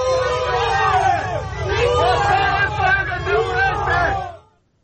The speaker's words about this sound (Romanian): Zeci de protestatari îl așteptau la poarta penitenciarului pe Dragnea, unde l-au huiduit.